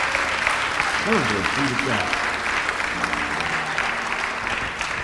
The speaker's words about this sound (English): Let's give the Lord a hand clap for the family of God.